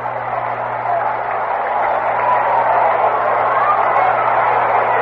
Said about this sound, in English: Roger making his last swing around the National League cities. For Davis, number nine. Roger Maris is applauded by most as he comes to the plate, booed by a few because he broke Babe Ruth's record.